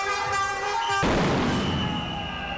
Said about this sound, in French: Bah, en fait, c'est des pétards qui servent à la sécurité. Du coup, tu dois en disposer 3 sur les voies de chemin de fer à une certaine distance, et quand le TGV passe dessus, bah, il sait qu'il doit déclencher le freinage d'urgence.